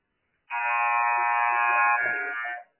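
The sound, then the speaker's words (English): A loud, sustained pregame buzzer, sounded before the starting lineups are announced, blares for about two seconds, a harsh steady electronic tone with rich harmonics, cutting off abruptly with no voices over it. “We'll begin with the starting lineups right here after the buzzer. Here comes the buzzer.”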